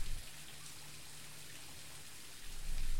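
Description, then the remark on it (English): A steady, hissing rush of water falling from a waterfall in a rainforest, soft and continuous with a low rumble underneath, echoing and diffuse, with no voices present. “The sound of the falls echoing through the rainforest.”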